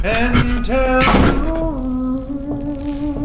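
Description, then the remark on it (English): A door slams shut with one loud, sharp bang about a second in, over a steady tonal drone that continues before and after the impact. “Through the door! Shut the door! Shut the door!”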